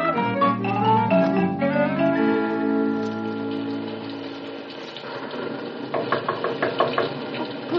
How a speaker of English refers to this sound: All of a sudden, I heard someone banging on the door.